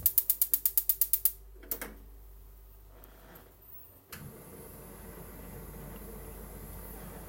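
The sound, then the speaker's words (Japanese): A gas stove knob clicks rapidly about nine times as it is turned to maximum heat, then a soft whoosh gives way to a steady burner roar as a pot is warmed, with no one talking. “火力マックスで。”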